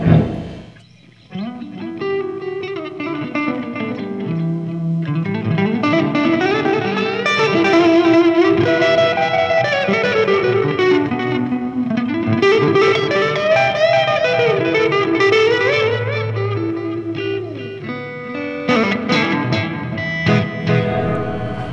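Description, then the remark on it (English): An electric guitar plays a continuous melodic line through a Boss DD7 delay pedal set to a short slapback, each note followed closely by a single quick repeat, with a slightly driven tone and no voices. “And I kind of run that one like a, just a, not a long echo, real close together, and just like a one echo”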